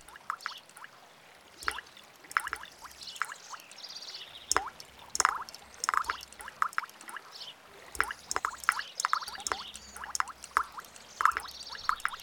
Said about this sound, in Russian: Слышишь, малыш, повсюду звонкая капель. Снежок тает, в ручейки превращается.